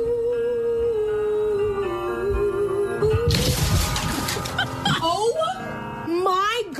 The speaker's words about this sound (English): Oh, this is a girl practicing in her room a song that she has to learn, and her mom's leg pops through the ceiling of the girl's room. Listen to this.